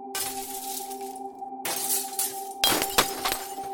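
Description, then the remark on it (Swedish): Glass display cases in a gold shop are smashed by robbers in three forceful bursts, each crash followed by tinkling shards, while a steady electronic alarm tone drones underneath throughout. No one speaks. “En av de båda krossade glaset i montrarna medan den andra hade dragit fram ett vapen och bevakade kunderna i butiken.”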